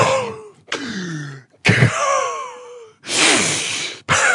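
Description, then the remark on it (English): Heavy, winded breathing from someone who has just rushed downstairs: a run of loud gasping inhales and drawn-out, groaning exhales, about five breaths separated by brief pauses, with no talking. “Unless you've been put into an iron lung, you shouldn't be making these noises.”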